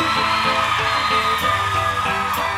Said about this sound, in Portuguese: Joga o bracinho pra cima. Quem tá feliz dá um grito aí.